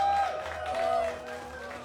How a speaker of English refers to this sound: somebody told me that they've just seen a snowy owl fly past this stage from the woods. Big round of applause for the snowy owl, I think.